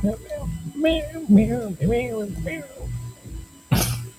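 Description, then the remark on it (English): A person mimics a cat with a string of four or five drawn-out, wavering meows in close succession, followed by a short breathy burst at the end. “Cat meowing, because I don't feel like singing the lyrics. No, I just start meowing.”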